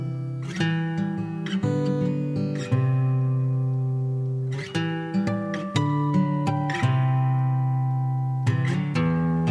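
A song plays with no singing yet, just loud, sustained chords that ring out and change every second or two, punctuated by a few sharp accented hits.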